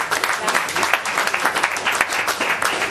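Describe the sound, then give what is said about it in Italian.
An audience applauds the Red Cross steadily, a dense wash of many hands clapping at a fairly loud, even level throughout, with no pauses. “Facciamo un applauso.”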